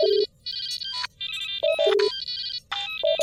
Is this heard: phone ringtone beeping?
yes